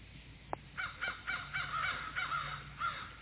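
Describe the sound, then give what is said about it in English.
Crows caw repeatedly in a rough, rhythmic series of harsh calls, several voices overlapping, preceded by a single sharp click, with no talking. “Puffs of woodland smoke, the season vinified, and murder mocking crows on Brawny Down.”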